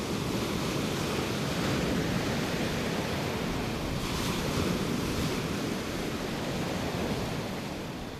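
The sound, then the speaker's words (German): Continuous surf washing onto a beach, a steady roar of breaking waves with one slightly stronger surge midway, loud, with a hint of wind and no voices. “Auch am Strand kann man nach einem ordentlichen Sturm Bernstein finden. In dem Geschlinge aus Seetang, das die Wellen auf den Strand geworfen haben.”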